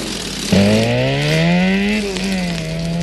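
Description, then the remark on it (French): A car engine suddenly roars to life and revs up, its pitch climbing steadily as it accelerates, then holding a loud, steady drone, prominent, with no talking. The cars are being started to drive away quickly. “On prend les voitures et on s'en va.”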